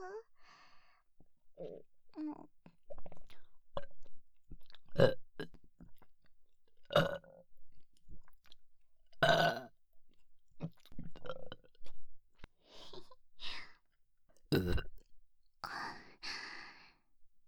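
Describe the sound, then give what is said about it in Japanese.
A series of close, irregularly spaced burps, some short and some drawn out, mixed with breathy exhales and wet mouth noises right at the microphone. “正気ゲップ、赤ちゃんの元がたっぷり入った息ゲップですよ。”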